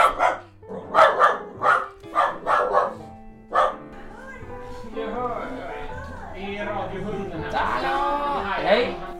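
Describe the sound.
A dog barks sharply about seven times in a quick, uneven series, then falls into higher whining and yelping sounds while voices mix in.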